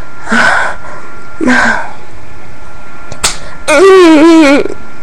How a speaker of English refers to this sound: I'm gonna slap my clit. Because I really like it when I do that.